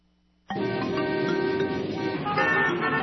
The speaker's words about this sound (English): Traffic. All this traffic. When will it end? Doesn't it seem like there are more cars on the road every day?